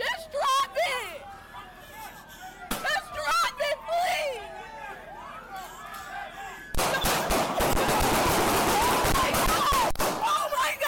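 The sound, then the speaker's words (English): Voices shout over background chatter, including a woman yelling at Mario Woods to drop the knife, then a loud, rapid volley of about 15 to 20 gunshots erupts, many sharp cracks in quick succession that continue to the end amid crowd noise. Recorded from a stopped Muni bus nearby. “So now we think that there are how many gunshots?”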